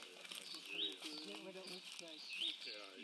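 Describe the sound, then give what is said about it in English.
A Hutton's vireo in a sycamore tree sings two bright, rising whistled notes spaced well apart, fairly clear above a person talking steadily underneath. “Hutton's Vireo. Bell's Vireo, St.”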